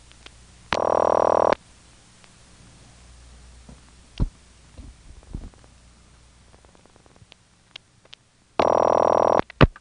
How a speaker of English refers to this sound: The surest indicator that you're dealing with Stromberg equipment is the supervision test, which you'll hear in this office and the Angier office. It's just a distinctive pattern of tones and flashes.